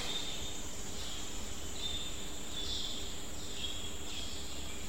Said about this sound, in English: Just right now we hear the sound, bird sound.